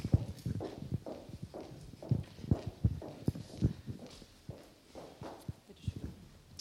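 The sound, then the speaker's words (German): Steady footsteps of a person walking over to another speaker cross a room at a brisk pace, each step a distinct hard tap on the floor, clear, with faint murmur in the background. “Haben Sie eine laute Stimme oder soll ich zu Ihnen kommen? Ich komme zu Ihnen.”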